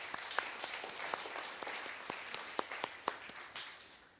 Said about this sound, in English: Amen? Let's give the Lord a hand clap for that.